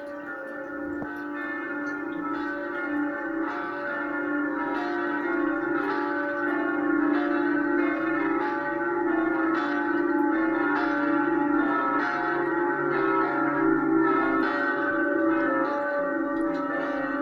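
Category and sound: signal or alarm, church bells ringing festively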